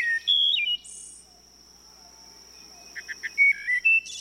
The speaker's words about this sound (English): and shady woodlots will once again echo with the flute-like music of the wood thrush.